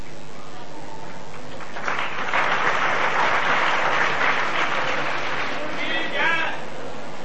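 An audience breaks into clapping that swells after a quiet start, holds as a dense, steady wash of many hands for several seconds, then thins slightly toward the end.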